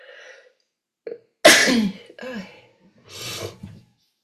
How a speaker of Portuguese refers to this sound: E se você está espirrando como eu, fica mais difícil, né? Mais desafiante.